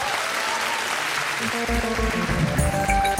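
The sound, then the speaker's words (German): An audience applauds author Katja Riemann at a reading of her book 'Zeit der Zäune', with dense, steady clapping at an even loudness throughout; about halfway through, sustained musical tones begin to sound beneath the continuing applause. “Jetzt klatschen Sie für Katja Riemann.”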